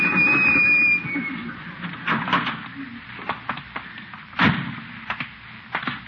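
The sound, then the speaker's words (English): A drugstore door slams shut on the speaker's tail with one sharp, loud bang, preceded by a brief steady ringing tone and scattered lighter knocks and thumps. “Slam the door on my tail.”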